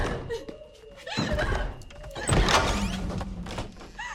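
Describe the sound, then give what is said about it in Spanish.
Heavy, dull thuds of a door being kicked, two or three forceful blows, with a rattling knock between them and faint movement noise around. “Da patadas.”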